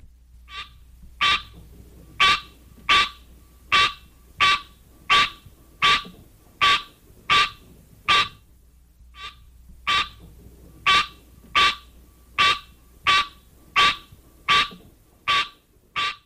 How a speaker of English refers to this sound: the green tree frog, Hyla Scenaria, has this call.